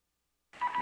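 After a moment of silence, a secret telephone abruptly begins ringing, a short electronic trill that is cut off almost as soon as it starts.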